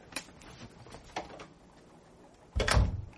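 A few faint clicks and rattles, like a handle or latch being worked, followed by a loud, solid thud of a back door swinging shut. No one speaks.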